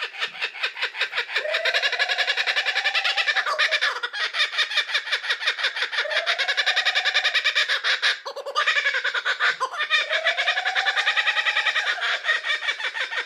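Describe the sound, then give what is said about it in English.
A kookaburra call: loud, rapid, cackling laughter in three long bursts with brief pauses between them, the chattering notes rising and falling, with no voices. “All right, let's find a kookaburra.”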